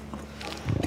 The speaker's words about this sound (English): That was a cow bringing her cud back into her mouth and chewing it up again. That's what they do. And that's also how she releases the methane built up in her rumen.